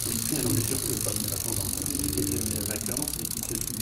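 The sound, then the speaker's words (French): The freewheel of Fausto Coppi's old racing bike spins steadily, giving a fast, continuous buzzing tick that holds an even level throughout, with low voices murmuring underneath. “Me faire tourner un petit peu le son du vélo de Fausto.”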